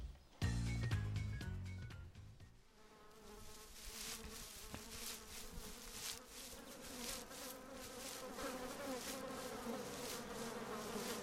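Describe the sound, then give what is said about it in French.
A loud low burst at the start gives way to the steady droning buzz of a flying insect like a bumblebee, wavering in pitch as it circles for several seconds with no talking. “Tiens, j'entends que ça bourdonne autour de moi.”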